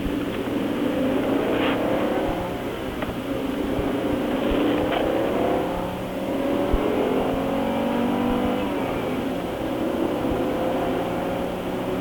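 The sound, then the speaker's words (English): An Audi's engine accelerates hard from a standstill to 60 mph in about 7.5 to 8 seconds, not at full effort, its pitch climbing and dropping back with each of several gear shifts, a steady loud drone over twelve seconds with no talking. “Okay, that was your 0 to 60 right there, and I don't think that took more than about 7.5 or 8 seconds.”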